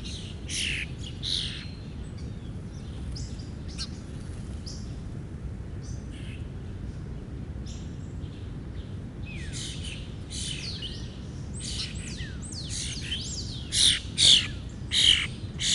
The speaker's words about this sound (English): Central Park Bird Feeding, Manhattan, NY. Recorded on July 17th, 2016. 5:16. Actions available. I'll go ahead and double tap here and listen to the very hungry birds.